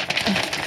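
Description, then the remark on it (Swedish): A voice imitates paper fluttering in the wind: a brief, breathy burst of rapid, papery flapping noises made with the mouth, moderately loud, lasting under a second. “papper som fladdrar i vinden.”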